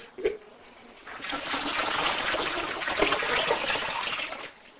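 Water pours steadily into a container, a broad splashing rush that starts after a brief knock and continues for several seconds before cutting off, moderately loud.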